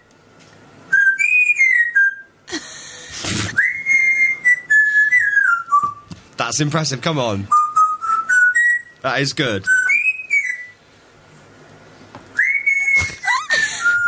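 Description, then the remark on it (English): A parrot whistles the Great Escape theme, a bright, gliding melody in clear high notes, broken up by sharp, noisy percussive bursts like a beat, while a person briefly voices approval. “So this is the Great Escape theme. Is it doing percussion as well? This isn't the parrot, surely.”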